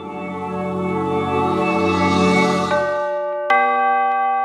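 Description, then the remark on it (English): City bells ring out loudly at midnight in celebration of the new year, with rich, overlapping tones that hum and sustain, then a fresh bright strike near the end sets a new peal ringing. No voices. “The clock struck midnight. The bells of the city rang out in celebration.”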